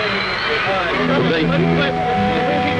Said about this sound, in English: And the crowd are roaring, you can hear them.